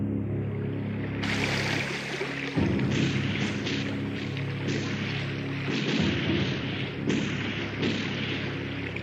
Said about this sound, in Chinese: 你听下啲枪声，岸上面嘅叛军时不时向永丰南放枪，有时仲会发炮向我哋射击添。